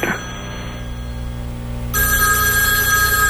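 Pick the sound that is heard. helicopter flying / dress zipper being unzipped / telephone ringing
telephone ringing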